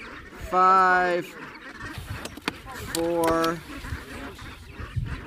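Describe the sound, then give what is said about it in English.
Two loud, nasal honks from brant geese being banded and measured in the field, each a harmonic-rich call lasting under a second, with a busy background of shuffling and faint voices around them. “On this day alone, the team banded and measured 1,500 brants.”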